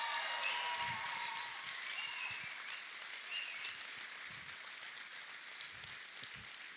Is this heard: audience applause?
yes